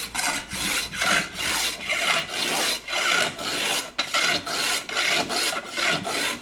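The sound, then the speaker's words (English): A coarsely set hand plane shaves a wooden stick into form by eye and feel, in about ten steady, rhythmic strokes, each a bright, raspy hiss with brief pauses between passes. No one speaks. “With the plane that's set quite coarsely, you get the job done.”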